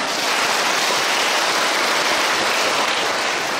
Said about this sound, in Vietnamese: Số 1, cho tràng pháo tay.